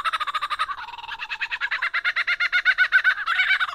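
A lyrebird mimics a laughing kookaburra: a loud, rapid cackling series of harsh repeated notes that rises and swells into a rollicking chorus over nearly four seconds, with no talking.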